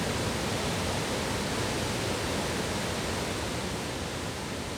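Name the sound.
roaring waterfall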